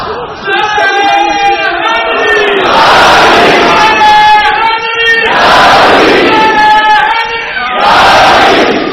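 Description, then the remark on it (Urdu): A large crowd loudly shouts a religious slogan in unison, answering a leading voice in three rising call-and-response waves, roaring, with no pause between them. “میرے پاس کوئی ڈپو کی پابندی بھی نہیں ہے, جتنے نعرے دل کرتا ہے مارو, میں سارے نعروں کا قائل ہوں, میں ساروں کا قائل ہوں, مارے جو دل کرتا ہے مارے, لیکن عشق ہو.”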